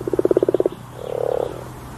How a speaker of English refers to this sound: Croak, croak. That's the unmistakable sound of the common frog.